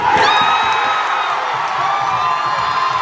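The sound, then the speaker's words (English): A large crowd at a Little League baseball game in central Pennsylvania cheers loudly and steadily for a few seconds after the final strike seals a win, a dense roar of many voices with shrill whistling and whoops riding on top, no distinct speech. “You could almost hear the cheer echo from central Pennsylvania all the way back into Elizabeth.”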